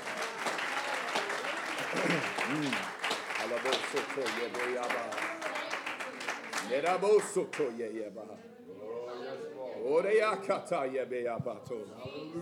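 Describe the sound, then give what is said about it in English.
A church audience claps their hands in a dense, rapid burst of applause that gradually thins out, while voices shout and call out over and after the clapping. “Somebody clap your hands on the ground.”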